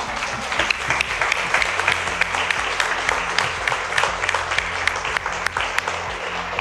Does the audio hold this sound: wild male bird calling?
no